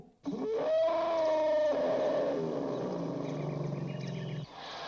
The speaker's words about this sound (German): So singt ein Elefant und eine Elefantenkarawane.